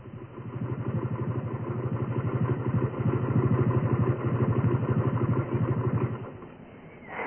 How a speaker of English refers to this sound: The motorbike I'm sitting on, it's a very special one. Special because it's been all the way around the world.